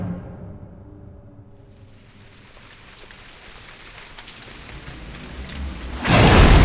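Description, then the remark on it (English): Heavy pouring rain hisses steadily, building out of a low droning hum at the start, then a sudden loud roaring burst of thunder swells up in the final moments. “The Sunstrider 2 came howling down out of the roiling clouds, slicing through the pouring rain so quickly that the water evaporated before it could even touch the hull.”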